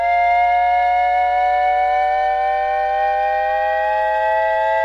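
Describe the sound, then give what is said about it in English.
A sound effect made to represent a 'bottomless Pinocchio': a Shepard-tone-like sound of stacked, steady tones gliding slowly upward, blended with a loud, continuous fire-truck-style siren wail that holds without a break. No one speaks. “Now, what I think this sounds like is a little like the Shepard tone, but also with a commentary from the fire truck responding to the three-alarm fire where Pinocchio had burst into flames.”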